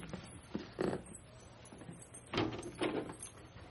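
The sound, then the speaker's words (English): A door being handled and pushed shut, with a few dull knocks and scraping thuds spread over a few seconds, moderately loud, with no voices. “Leave the door open, please.”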